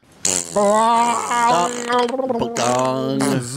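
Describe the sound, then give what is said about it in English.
A voice imitates a gong layered over a fart noise: a loud, buzzing, sustained vocal tone that wavers in pitch, briefly breaks off partway through, then resumes before stopping. “Can you do a gong over a fart?”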